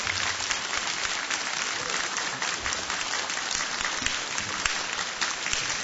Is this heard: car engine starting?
no